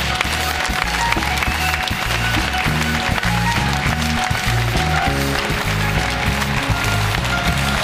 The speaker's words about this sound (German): Zum ersten Mal seit dieser Meistersaison wieder hier bei uns in München. Begleitet vom Applaus unseres Publikums